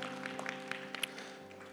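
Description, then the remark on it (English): An audience claps steadily in a dense wash of overlapping hand claps, with a few sharper claps standing out, over a faint sustained musical hum underneath. “The clapping is for you.”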